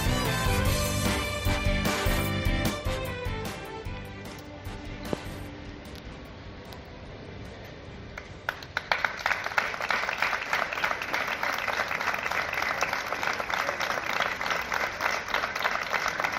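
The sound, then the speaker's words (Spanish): After a minute of silence held at 12 o'clock in Lorca, Spain, in memory of a resident of Ramonete swept away by the current in the rambla, a crowd breaks into sustained applause, a dense, steady crackle of many hands clapping that continues loudly to the end with no one speaking. “Este es el sonido que ha dejado a las 12 en punto el minuto de silencio en recuerdo del vecino de Ramonete que fue arrastrado por la corriente en la rambla de esta pedanía lorquina el pasado domingo por la tarde.”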